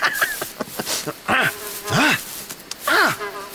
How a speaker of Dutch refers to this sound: Het wemelt hier van de muggen. Ik haat die vieze bloedzuigers.